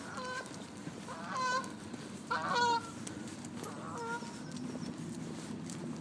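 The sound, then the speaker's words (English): Several low-flying geese honk in short bursts, a few loud calls over a steady low rumble of outdoor background noise, heard in the evening on a riverside walk from Richmond towards Kew Bridge, with no talking. “Listening to the low flying geese, the birds in the trees.”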